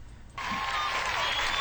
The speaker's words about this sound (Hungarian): Tapsal.